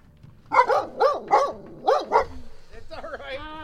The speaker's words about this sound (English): She's a puppy. She gets a little excited, so watch her.